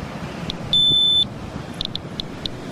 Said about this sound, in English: The alarm's going off. Here I am on the beach.